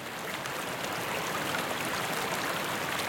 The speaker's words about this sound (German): Es fließt von dem Wasserfall sanft in den kleinen See. Es ist so, als ob jeder Wassertropfen dich begrüßen und dich beruhigen würde.